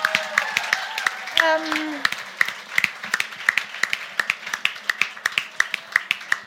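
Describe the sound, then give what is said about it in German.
A crowd applauds with a steady patter of many hand claps throughout, and a brief voice or cheer rises over the clapping near the start. “Also bitte einen riesengroßen Applaus.”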